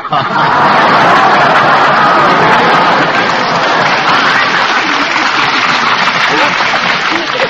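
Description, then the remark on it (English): An audience breaks into steady, loud applause after a joke, a dense wash of clapping that holds evenly for several seconds without fading. “The man got applause with a gag like that.”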